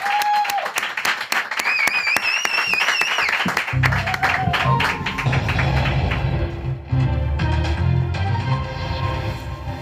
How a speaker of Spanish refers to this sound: Un aplauso para Madame Gamayo y su flash paranormal.